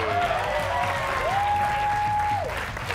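Steady audience applause, a dense wash of many hands clapping at a constant level for the whole span, with a sustained whistle-like tone gliding up and holding above the clapping.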